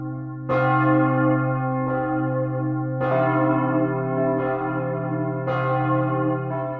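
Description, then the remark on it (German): A large church bell dated 1038 tolls slowly in a former imperial abbey, now the world's largest Romanesque church ruin: about five strikes with long, overlapping ringing decay and a deep sustained hum underneath, fairly loud with no voices. “Mit ihrem verhärmt magischen Klang zeugt sie von den Anfängen der Glockengießerkunst in der einst so mächtigen Reichsabtei und jetzigen größten romanischen Kirchenruine der Welt.”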